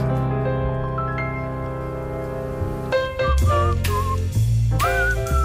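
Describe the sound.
Two people whistle a tune together over a steady sustained background tone, the whistled notes entering midway and sliding in clear melodic phrases.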